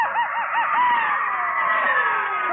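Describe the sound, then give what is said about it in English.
A crowd of boys lets out loud, high-pitched cowboy yells on a count of three during a network show, with warbling whoops at first that merge into one sustained, overlapping holler lasting a couple of seconds. “So, to kind of loosen up our cowboy voices just for fun, when I count three, let's see who can give out with the biggest cowboy yell that ever happened to the network.”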